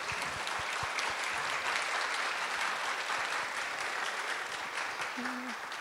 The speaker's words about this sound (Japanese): はい、ハレルヤ教会の皆様、本当にありがとうございました。今日共に礼拝できることを嬉しく思います。もう一度ハレルヤ教会の皆さんに拍手をお願いします。